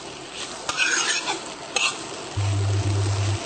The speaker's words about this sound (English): You will see slowly how the color changes in the rice once it is being sauteed. It will become transparent.